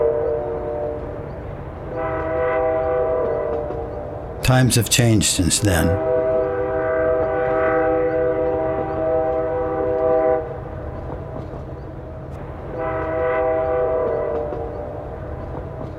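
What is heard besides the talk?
passing train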